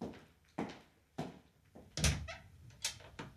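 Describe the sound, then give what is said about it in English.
Several separate knocks or thumps at a door by a visitor, spaced unevenly about half a second to a second apart, moderately loud, with no one talking. “C'è qualcuno alla porta per lei, signore.”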